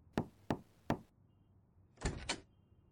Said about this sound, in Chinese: 我说儿子，你最近怎么回事啊？敲门也不回应，睡得又晚，还在熬夜，搁那干嘛呢？